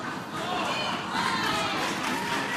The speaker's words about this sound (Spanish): Es el autor de esa letra, viendo, bueno, pues que ha sido bien recibida con cariño y con el aplauso y con parte del público puesto en pie, ¿no?